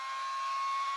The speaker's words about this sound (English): You can hear this, right? Oh, yeah. You can hear the engine screaming.